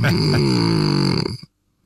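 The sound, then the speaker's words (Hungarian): A single loud human snore, a low, buzzing nasal rasp lasting about a second and a half before cutting off into silence. “Van a horkolásokban valami egyforma, nem? Egyformán idegesítő.”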